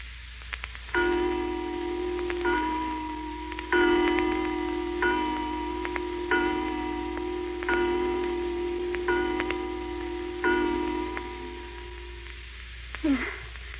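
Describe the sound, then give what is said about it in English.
A clock strikes eight times, slow and evenly spaced, each ringing stroke overlapping the fading hum of the last, with a soft steady background hiss beneath. “Is that just 8 o'clock? 8 o'clock.”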